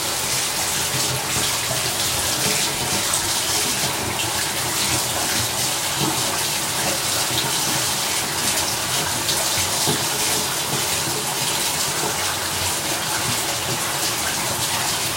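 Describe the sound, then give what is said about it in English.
Shower water runs steadily as it warms up, a constant hissing spray, with no breaks or voices over its full length. “So, the water is warming up now.”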